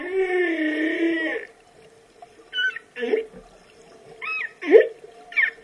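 Humpback whale song: a long, wavering moan rich in harmonics, then a series of shorter rising and falling cries and squeals, eerie and resonant as if underwater.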